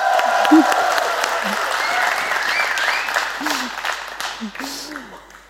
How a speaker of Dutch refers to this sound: als je een heel hard applaus hoort, dan is dat voor jou.